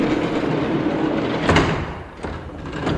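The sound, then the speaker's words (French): A heavy barn door rumbles and grinds along its track as it slides shut on farm animals left to eat, with a couple of sharp clunks partway through, loud, with no one talking. “Du coup, là, on ferme la porte, on les laisse manger tranquillement.”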